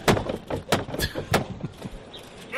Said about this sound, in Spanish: El instante que todos esperamos, esos tres golpes secos a la puerta de Belén y San Roque para marcar esa Semana Santa que tanto anhelamos, con la que también sueña su presidente.